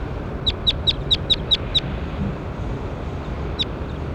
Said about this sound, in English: That was bird 21.